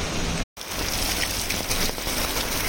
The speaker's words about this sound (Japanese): うわ、すっごい音だな。雨の音もすごいし、水が流れ落ちる音もすごい。